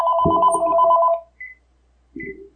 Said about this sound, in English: Oh, the phone. I forgot about that. Should I answer it? Okay.